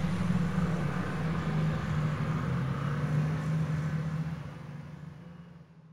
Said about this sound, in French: Rien de grave. Ce sont les soldats allemands qui traversent le village en voiture et en camion.